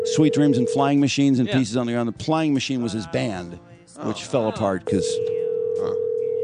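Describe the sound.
A steady, mid-pitched electronic ring tone from an outgoing phone call plays under a voice at the start, then sounds again alone after the talking stops. The call goes unanswered and is forwarded to an automatic voice message system.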